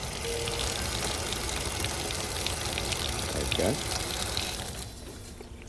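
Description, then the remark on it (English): Water drains steadily down a bathroom sink, a continuous rushing and trickling that fades slightly near the end, while a voice speaks briefly over it. “Watch this water go down this drain.”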